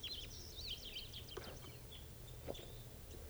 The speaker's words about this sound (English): Lovebirds. It's a male female pair. Male. Male there. This is a female, followed by the male.